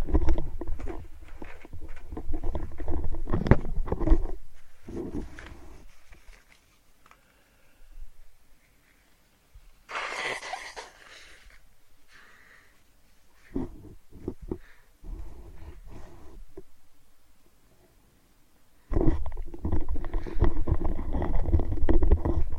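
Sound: blowing nose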